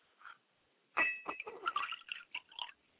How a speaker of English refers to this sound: I like to pour a glass of water for my mother's spirit, and I say, Ashe.